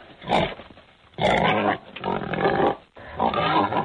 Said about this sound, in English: All right, so that boar, excuse me, that boar is a boar.